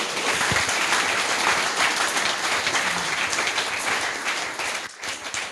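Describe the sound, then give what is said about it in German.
Sustained applause from an audience at a Jugend hackt event, thanking a helper for providing the internet, a dense steady wash of many hands clapping at an even loudness, dipping briefly near the end before carrying on. “David, danke für das Internet. Applaus!”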